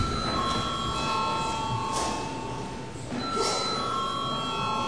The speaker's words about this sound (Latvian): Lūdzu zvanu.